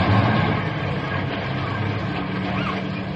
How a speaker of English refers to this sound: Say, here come the buses down the street now.